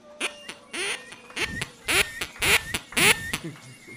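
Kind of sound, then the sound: bird, ducks quacking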